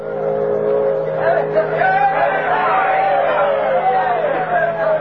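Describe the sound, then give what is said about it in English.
A large crowd gathered at the dock in Dawson City on the Yukon River cheers and shouts continuously in clear air as the steamboat Bonanza Belle, the last boat of the season, steams into port. It is a dense, steady roar of many voices, with some rising and falling yells over a low constant rumble. “Cheers cut through the clear air as the Bonanza Belle steamed into port.”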